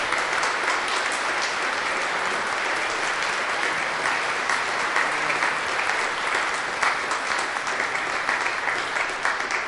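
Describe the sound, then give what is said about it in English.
A crowd at a service applauds steadily for about ten seconds to celebrate a woman's 91st birthday, the clapping dense, bright and sustained at an even level with no voices breaking through. “You know, after people hit 90, I think they deserve a round of applause.”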